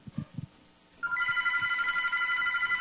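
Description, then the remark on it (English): A few soft, low thumps, then a telephone bell starts ringing loudly and steadily, a bright continuous jangle that carries on to the end with no talking. “I can hear the phone again.”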